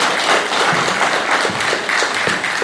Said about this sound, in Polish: Wielkie brawa dla naszego młodego artysty.